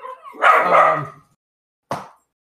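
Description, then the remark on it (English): The speaker's dog barks: one longer, rough bark followed after a short pause by a single sharp yip, with silence in between. “And that would be my dog.”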